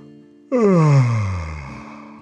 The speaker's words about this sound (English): With a full belly, Huan yawned.